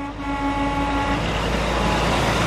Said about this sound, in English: It's a weekday morning, and a tangle of trucks idles outside a container yard in Portland, Oregon.